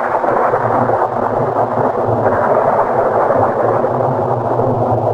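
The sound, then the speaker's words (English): A steady, loud roar of heavy rain fills the whole stretch, with deep, rumbling thunder rolling continuously underneath. No voices are heard. “The great black clouds and teeming rain engulfed us all.”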